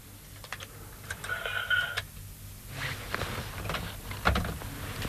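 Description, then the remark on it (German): A telephone rings briefly, a short electronic warble lasting under a second, surrounded by scattered keyboard clicks and soft handling noises. “Es ist gerade das Telefon dazwischen gekommen.”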